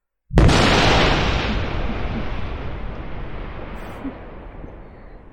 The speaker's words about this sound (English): Afraid of the storm?